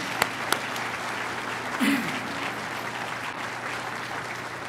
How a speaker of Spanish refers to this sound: Yo creo que merece un aplauso el Señor. Amén.